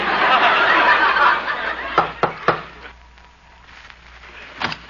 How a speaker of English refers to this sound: I'll knock on the door.